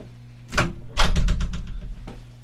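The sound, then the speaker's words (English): A studio door at radio station CJSF 90.1 FM in Burnaby, British Columbia, is pushed shut: a first thump, then a louder bang followed by a quick rattle of latch clicks, and a softer knock at the end. No one speaks. “I should probably close the door with that coming through the speaker, right? Probably close the door.”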